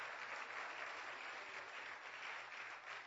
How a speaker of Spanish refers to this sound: Un aplauso también porque tiene años de caminar en el Señor.